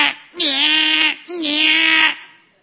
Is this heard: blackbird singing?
no